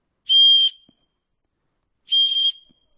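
Two short, shrill whistle blasts, each lasting about half a second, separated by a pause of over a second. They are loud, with no talking.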